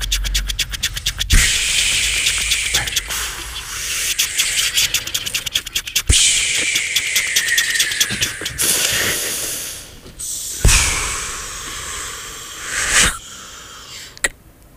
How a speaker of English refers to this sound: That's the sleepy train, right? Oh, it's the Sleepy Town Express, but it sounds like it's still kind of off in the distance.